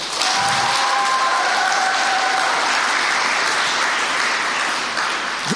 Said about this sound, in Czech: Děkuji, teď už jsem spokojený, to už je maturitní potlesk.